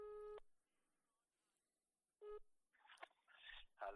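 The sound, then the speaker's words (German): A loud telephone ringing tone, heard after a phone number is dialed, sounds in two short bursts separated by a pause, followed by scratchy rustling and handling noise near the microphone. “So, ja, ich wähle. Ich kann Telefon ran. Es macht es macht so. Es tütet.”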